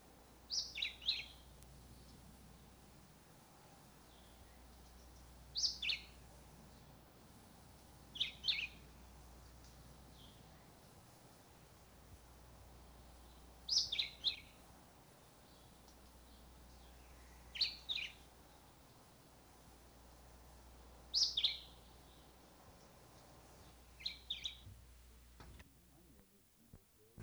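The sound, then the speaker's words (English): A black-whiskered vireo, a coastal mangrove species of southern Florida, sings short, clipped phrases of two or three notes, repeated roughly every four seconds with steady pauses between, clear against a faint low hum. “A coastal mangrove species of southern Florida is the black-whiskered vireo.”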